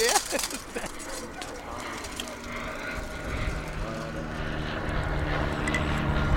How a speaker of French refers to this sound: Je sais pas, je suis pas intéressé par ce genre de coucou, ils sont trop petits pour moi. D'après moi, c'est un Diamond Cataner.